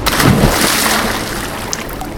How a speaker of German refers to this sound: Was macht sie denn? Mist, die Müllers Tochter springt in den Fluss.